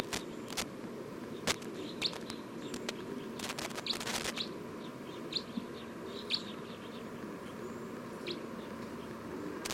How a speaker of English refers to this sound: Recording, this is bird 306.